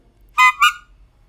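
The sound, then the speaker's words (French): Two short, bright honks from a horn, one right after the other, loud, with quiet before and after and no voices. “Un klaxon.”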